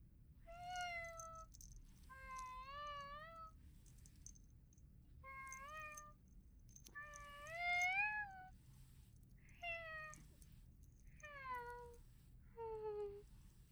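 A cat meows again and again while being petted, about seven drawn-out, tuneful meows with short pauses between, clear over a low, steady background rumble.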